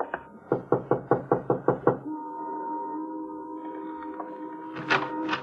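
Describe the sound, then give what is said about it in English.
Police officers knock on the door of a run-down white single-frame house in a city: about eight sharp, evenly spaced knocks in a quick, steady series, clear, then give way to a sustained droning tone that lingers until the end. “Want to knock? Sure.”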